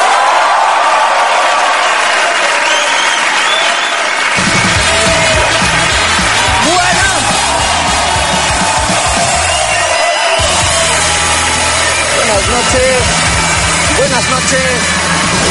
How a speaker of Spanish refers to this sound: Y ahora sí, quiero que recibamos con un aplauso enorme al exquisito Luis Piedrahíta.